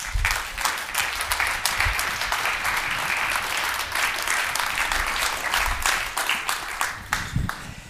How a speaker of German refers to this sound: Und deswegen jetzt einen ganz kräftigen Applaus bitte